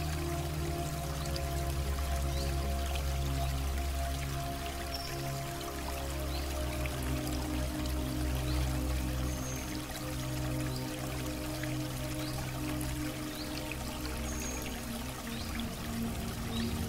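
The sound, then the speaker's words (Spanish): A steady, continuous rush of flowing water, like a stream running without pause, heard alone against a low sustained hum that stays level throughout. “Todo acá está en movimiento. Refleja la naturaleza adaptable y nutricia del agua.”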